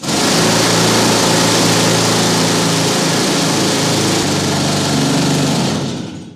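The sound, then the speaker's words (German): A loud pneumatic rock drill (compressed-air hammer drill, as used underground in mining) roars steadily for several seconds, a dense rattling mechanical noise with a droning motor tone, then fades slightly at the end. No voices. “Da wurden dann auch andere Werkzeuge eingesetzt, zum Beispiel so Bohrhammer, die mit Pressluft betrieben wurden.”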